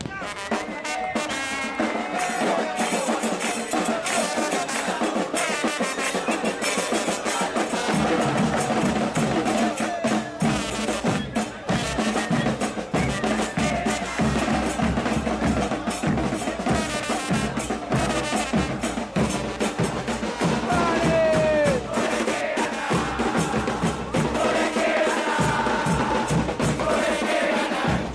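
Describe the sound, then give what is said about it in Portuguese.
A dense crowd of football fans, the Chanchuligans supporters of Sportivo Luqueño, sings and chants in unison, loud and continuous, with many voices blending into a rhythmic roar that holds steady for the whole stretch. “Aliás, vamos ouvir agora um trechinho da torcida soltando a voz dos Chanchuligans do Sportivo Luquenho.”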